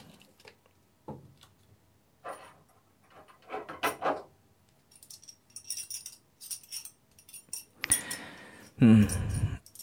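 A collar buckle jangles in a string of light metallic clinks and rattles as the collar is being removed, mixed with soft rustling, before a couple of louder fumbling bursts near the end.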